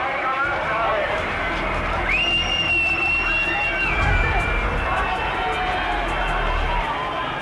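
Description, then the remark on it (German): A dense, agitated crowd of students, hemmed in by police with batons, rushes about in panic, with scuffling running feet and shouting voices blending into a loud, continuous commotion; a shrill whistle cuts through for a couple of seconds. “Daraufhin werden die Studenten von der Polizei eingekeilt. Kommando, Knüppel frei.”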